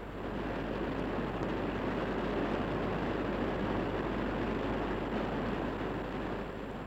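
Heavy rain pours down in a dense, steady roar with a fine hissing patter, holding at an even loudness throughout without voices or pauses.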